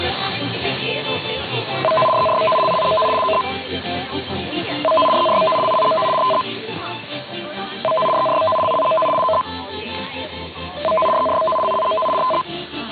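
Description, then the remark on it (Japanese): A test broadcast of an emergency warning broadcast signal, which is used to broadcast important information such as earthquakes and tsunamis: four repeated bursts of a steady two-pitch electronic tone, each about a second and a half long, separated by short gaps over faint background hiss. “これで緊急警報信号の試験放送を終わります。”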